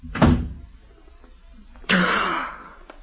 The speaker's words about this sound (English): Shut the door. He won't come back again. I want the door shut.